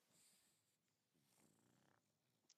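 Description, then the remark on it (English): A soft, low rumbling purr-like sound with snuffly breathing from a contented dog being held in someone's arms, quiet and continuing steadily for a couple of seconds before a brief faint click at the end. “Is that a dog purr?”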